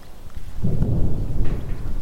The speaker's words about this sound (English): Artillery fire.